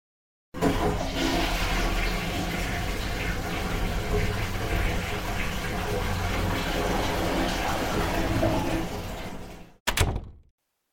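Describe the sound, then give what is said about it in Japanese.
A toilet flushes with a loud, steady rush of water lasting several seconds, then cuts off, followed by a brief clunk near the end. “しばらく電車こがそうだし、トイレ行こう。”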